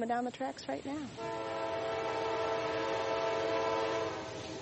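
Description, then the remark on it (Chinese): A train approaches along the railway tracks at Thurmond station in New River Gorge National Park, its horn sounding a long, steady, loud blast that holds for several seconds after a brief wavering tone at the start, with rumbling beneath. “我们甚至能听到一辆火车沿着铁轨正在驶来。”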